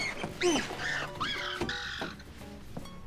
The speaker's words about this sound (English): It's that goddamn bird outside my goddamn window. What the hell kind of devil bird chirps at night?